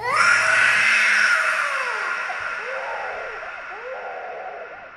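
A person screams loudly and close by, a raw, continuous shriek with a wavering, rising-and-falling pitch that carries on for several seconds and slowly eases off.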